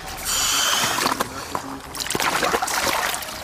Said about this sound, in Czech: Věřící se pak následně ve vodě vykoupou. Jako první se do vody ponořil